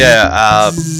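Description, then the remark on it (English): A voice mimics a dot matrix printer at work, a loud nasal buzzing screech that shifts pitch in short mechanical bursts for about a second. “Oh, you're not going to print it on the dot matrix printer?”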